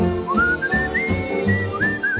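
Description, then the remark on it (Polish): A person whistles a cheerful melody as part of a song, the bright tone gliding between sustained notes over a low musical accompaniment, clear throughout. “Kocham śpiew, kocham gwizd.”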